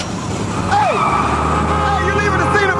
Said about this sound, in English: drives off.